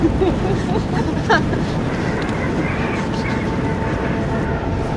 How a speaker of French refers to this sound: Le vent de face avec la pluie, c'est génial.